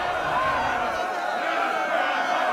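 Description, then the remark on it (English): A crowd in a council chamber erupts in a dense, continuous clamor of gasps and overlapping shouts and exclamations, loud and steady for the full couple of seconds with no single voice standing out. “The chamber erupts in gasps and shouts.”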